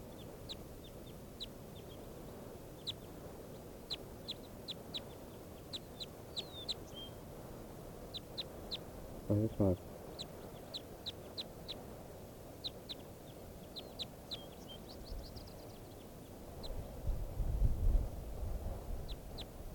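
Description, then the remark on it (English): Short, high-pitched bird chirps repeat in irregular bursts throughout, over a steady low background hum, with a brief louder call midway and a low rumble near the end. This is a test recording of bird 585, made with a new battery in the microphone. “Testing bird 585 again with a new battery in the microphone.”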